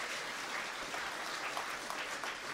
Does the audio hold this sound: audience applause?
yes